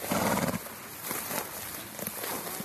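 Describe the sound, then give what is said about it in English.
A horse whinnies briefly at the start, then scattered soft hoof clops follow over a steady outdoor background hiss, with no one talking; old-breed horses descended from the Tarpan wild horse, brought from Poland, in WWF-owned wetlands at Markegg, Austria. “In the WWF-owned wetlands at Markegg, some unexpected inhabitants, horses.”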